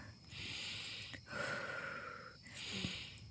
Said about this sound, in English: Okay, I'm breathing.